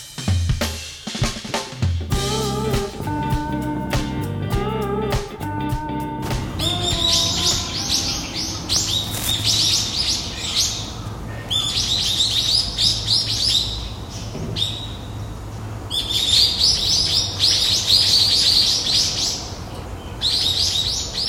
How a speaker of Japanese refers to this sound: もう鳥がよう鳴いてるわ、秋だな。